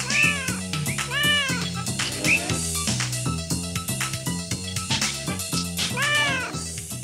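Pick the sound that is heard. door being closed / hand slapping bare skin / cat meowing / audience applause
cat meowing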